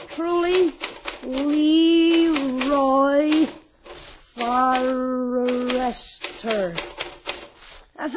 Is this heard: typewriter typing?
yes